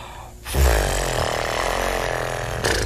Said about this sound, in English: In order to get sound, you blow through buzzing lips.